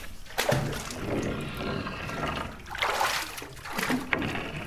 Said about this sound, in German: Der gelernte Schlosser zieht mit einer Art Schneeschieber das Salz im Wasser zum Rand, hebt es mit der Schaufel heraus, lässt es abtropfen und häuft das nasse Salz auf die Holzablage über der Siedepfanne.